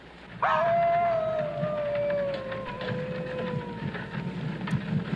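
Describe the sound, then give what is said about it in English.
A single long wolf howl rises in suddenly, then slowly slides downward in pitch for several seconds, loud over a faint noisy background. “Werewolf. Werewolf? There. What? There, wolf.”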